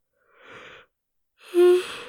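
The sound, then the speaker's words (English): A single yawn: a soft breathy intake, a brief pause, then a louder drawn-out exhale with a low voiced groan, with no talking around it. “He hears a yawn.”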